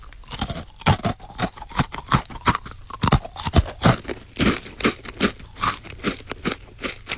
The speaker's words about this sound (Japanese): いやー、パイのサクサクした、その、音からして美味しそうです、これ。 しかも、チョコ味。チョコ味ですね。